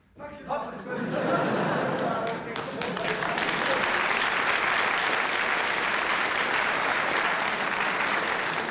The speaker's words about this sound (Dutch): Fijn, dames en heren, dat u het applaus zo spontaan inzet.